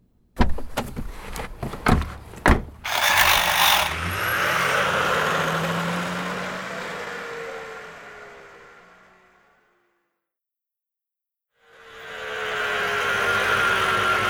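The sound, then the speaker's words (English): A few sharp clicks and thumps, then a car engine starts and runs with a steady rumble that fades away. After a short silence the engine noise returns. “This is my car. It's big.”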